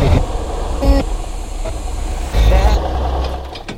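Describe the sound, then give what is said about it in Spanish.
A car engine on a road struggles and sputters as it breaks down, its low, rough rumble lurching through uneven surges and knocks before weakening and fading toward the end. “Oye, ¿pero qué pasa con el motor?”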